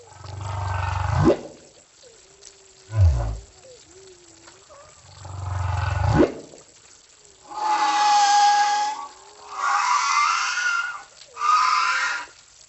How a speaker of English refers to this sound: It's a hydrophone that you just dip over the side and you let hang over the side for as long as you want to listen. I usually use those if I'm trying to record a humpback whale song.